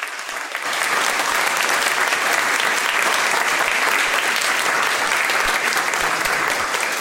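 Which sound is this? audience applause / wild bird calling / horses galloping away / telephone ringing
audience applause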